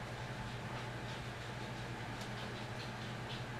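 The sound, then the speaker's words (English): A room heater runs with a steady, unbroken drone: a low mechanical hum under a broad airy whoosh, holding the same moderate level throughout with no voices. “Oh, is that a heater? Yeah.”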